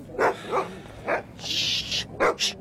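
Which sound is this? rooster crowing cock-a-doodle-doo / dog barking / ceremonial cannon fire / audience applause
dog barking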